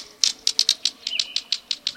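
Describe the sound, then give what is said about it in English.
A green kingfisher's quiet clicking call: a quick, steady series of about a dozen dry, pebble-like ticks, clear with no voices, over a soft background hush. “Like two pebbles clicking together, the green kingfisher's quiet call can be heard at wooded streams and ponds.”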